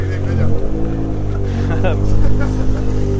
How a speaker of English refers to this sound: as they rev the engines to leave, he needs a bigger exhaust.